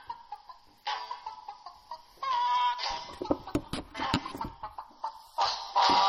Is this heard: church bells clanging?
no